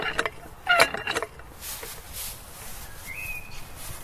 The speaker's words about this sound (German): Ja, da habt ihr nochmal gehört, den Ballonplatz, auch die Sounds, die den Ballonplatz ausmachen, in einer Soundcollage zusammengestellt.